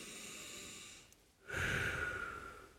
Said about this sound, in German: Okay, und jetzt nehmt ihr den Oberkörper hoch, streckt euch sozusagen auf, Oberkörper, Unterkörper, eine Linie, ihr habt Platz, ihr fasst euch an die seitlichen Rippenbögen unten und atmet jetzt nochmal so tief ein, wie ihr könnt.